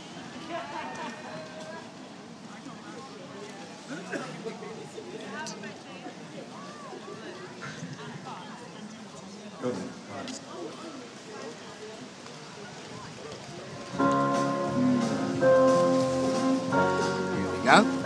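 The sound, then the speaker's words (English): Steady outdoor wind rushes and hisses throughout on a windy day, with people talking faintly beneath it; near the end, someone singing with a man playing keyboard comes in over the blustery noise. “Quite windy today, isn't it”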